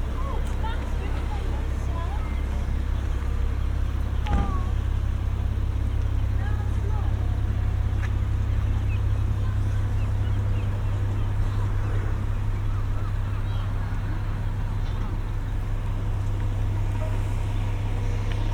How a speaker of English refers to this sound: And that's good because the wind's picked up a little bit, so I'm hoping we can capture some of the sounds of the rigging and the harbour around me.